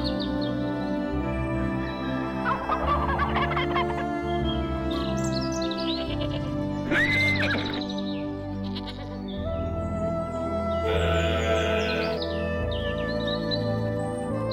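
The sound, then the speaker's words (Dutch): A rooster crows once amid busy farmyard sounds, with sheep bleating and birds chirping throughout a steady outdoor background. “Hoor je de haan?”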